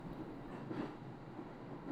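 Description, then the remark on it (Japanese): An electric train rumbles along its rails with a steady, dense low roar and faint rattling, heard from inside a carriage by a rider, continuous and moderately quiet with no voices. “電車の音が響く間に揺れる体。”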